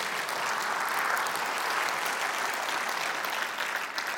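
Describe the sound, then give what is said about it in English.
A large audience at Brave church applauds and cheers steadily for about four seconds, a dense, even wash of clapping that holds at a constant level throughout with no speech over it. “Everything we're cheering for today has nothing to do with any individual.”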